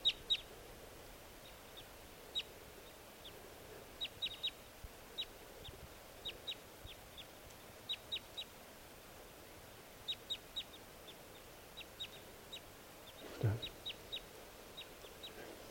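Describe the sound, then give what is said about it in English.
Newly arrived wild birds, not the captive decoys, call repeatedly, giving short, high-pitched chirps in quick pairs and triplets at irregular intervals over a steady background hiss. “Okay, the new birds are calling. Stop. These are the wild ones.”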